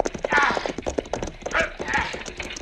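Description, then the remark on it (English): Galloping horse hooves pound in a fast, steady rhythm over rocky ground, with raised voices calling out over the clatter throughout as a rider tries to slow the horses. “Si, I'll have to jump to the back of this horse, Pancho.”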